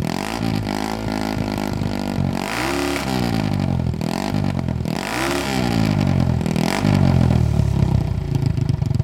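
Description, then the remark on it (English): An Italian-made single-cylinder Harley-Davidson motorcycle engine, built with a partner company in Italy between 1961 and 1978, revs up and down several times in quick bursts, its harmonic pitch rising and falling, loud, with no voices. “So if you go to our singles, there's several in here, but one of them is, believe it or not, we made from 1961 until 1978, we were partnered with a company in Italy, and they made some Italian-made singles, so we'll take a listen to one of these.”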